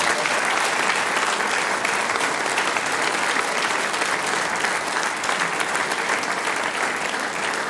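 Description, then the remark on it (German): Sustained audience applause for a young boy who plays football for FC Trofeiach, a dense, steady wash of many hands clapping at even loudness for several seconds, with no voices standing out above it. “Und jetzt kriegst du einen großen Applaus.”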